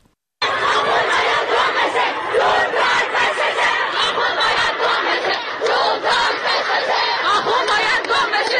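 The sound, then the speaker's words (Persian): A large crowd of young girls protesting in the streets, removing their headscarves, shouts slogans together in loud, sustained rhythmic chanting, voices overlapping continuously with little pause from start to finish. “شعارهایی که حالا دیگر کسی از سر دادن آن ترسی ندارد.”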